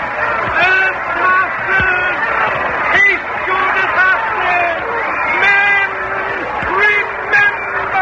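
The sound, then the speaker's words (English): A dense, terrified mob clamors all around, many overlapping voices shouting and crying out at once in a steady, agitated roar with sharper yells rising above the babble. “We can't move for the mob. They're crazy with terror.”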